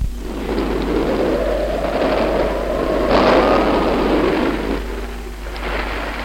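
nature, thunderstorm with heavy rain

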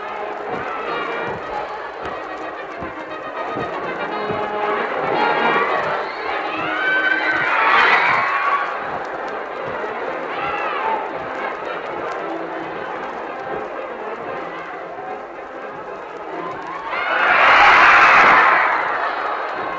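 crowd, audience applause and cheering

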